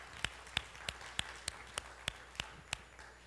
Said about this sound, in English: I think you got the biggest cheer of the whole day.